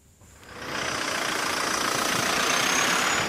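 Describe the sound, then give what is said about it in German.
Stop-and-go car traffic idles and rumbles on the Oder bridge at the German-Polish border in Frankfurt (Oder), with cars coming from Poland waiting at border controls; a steady wash of road noise swells in after a brief quiet start and holds fairly loud, with no voices. “Stop-and-go-Verkehr auf der Oderbrücke.”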